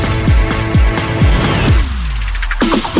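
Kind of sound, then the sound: signal or alarm, alarm clock ringing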